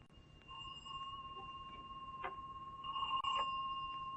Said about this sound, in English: Pretty bell you've got here